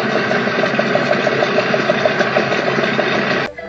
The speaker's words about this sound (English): Well, that was a selection of the stationary engines, which were very useful in their day. Now they're just exhibits at events like this.